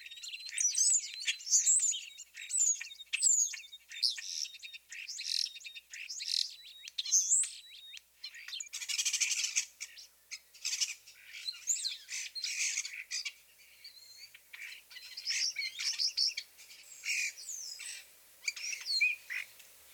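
Starlings chatter continuously with a busy jumble of high whistles, squawks, clicks and rasping notes, overlapping and varied in pitch, loud throughout with no voices.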